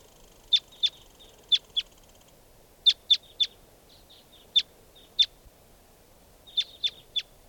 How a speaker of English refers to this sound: And more wild birds are coming around.